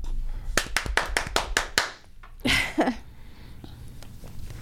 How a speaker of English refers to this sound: For the podcasters, it's hand clap. Or ass clap, if you like to sing it dirty.